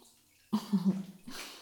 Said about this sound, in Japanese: じゃあ泡をかき集めて